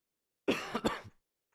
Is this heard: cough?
yes